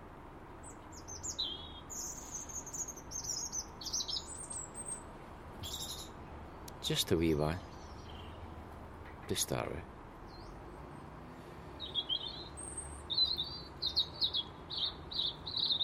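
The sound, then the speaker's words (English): A man speaks briefly, then gives a short, wavering whistle of a couple of notes, while birds chirp and tweet steadily in the background. “Why do I need motivation to whistle?”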